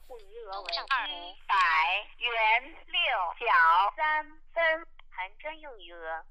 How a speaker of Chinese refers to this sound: 电话打通了啊，我们再听一下。